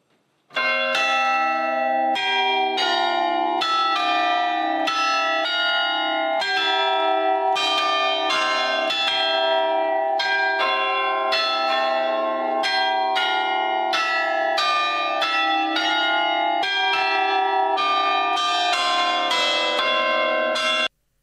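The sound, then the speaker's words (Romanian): A palace tower clock chimes, heard from inside the palace tower, its loud, resonant bell tones struck one after another in a steady melodic sequence, each ring overlapping the last for about twenty seconds, with no voices. “Am avut ocazia să urc și eu în turnul palatului, așa că dacă nu vă e cu supărare, o să reciclez niște material mai vechi să vă arăt cum sună din interior ceasul.”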